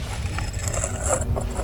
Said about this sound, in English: It appears to be laying down. It's in front of us. It's like a barn door. Laying down on a slope? Or maybe flat. It's in front of us. It's like a barn door. Then push it open.